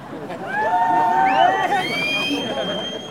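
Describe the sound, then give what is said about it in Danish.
An audience whoops and whistles, with several high, sliding whistles and hollering voices rising over a steady murmur of crowd chatter, sustained for a few seconds, reacting as a technician crouches at eye level with politician Inger Støjberg's backside to fix her microphone on stage. “Og det begynder publikum selvfølgelig at reagere på, og der kommer noget hujen og piften.”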